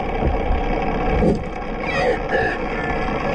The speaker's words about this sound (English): He says the animals appear to focus their attention on the boat's rudder. In this underwater recording, you can hear an orca shove the vessel's rudder with its head.